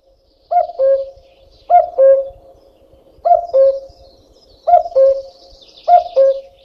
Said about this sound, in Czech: Podle hlasu patří kukačka k našim nejznámějším ptákům vůbec. Vešla do mnoha lidových písní, dokonce i do vánočních koled a s prvním jarním kukáním je spojena pověra, kolikrát kukačka zakuká, tolika let se člověk ještě ve zdraví dožije.